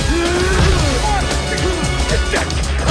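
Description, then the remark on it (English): A couple of sharp, heavy punches land on a face amid loud, continuous crowd noise and shouting voices, the hits forceful but partly buried in the din. “Rocky gets a punch back at Tommy's face.”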